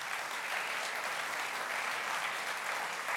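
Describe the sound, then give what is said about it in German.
Sustained applause from an audience for Gysi's criticism of continued weapons exports to crisis regions, a dense, even wash of many hands clapping at steady loudness with no gaps, lasting the full few seconds and without any voices. “Gysi kritisierte auch den anhaltenden Export von Waffen in Krisenregionen und erntete dafür viel Applaus.”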